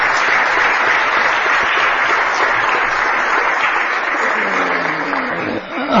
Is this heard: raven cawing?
no